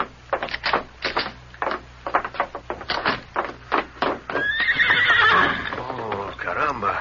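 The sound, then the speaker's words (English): Steady clopping of a white horse's hooves rings out for several seconds, then the horse lets out a loud, wavering neigh that trails off into snorting and shuffling. “Where would a boy get such a beautiful horse as this?”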